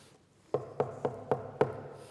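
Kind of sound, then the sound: impact, knocking on a door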